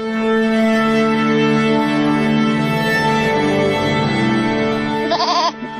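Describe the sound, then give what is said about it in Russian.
A goat bleats loudly in one long, drawn-out cry that ends in a quick wavering quaver before breaking off. “О своей любви к козам рассказывают жители Вильнюса.”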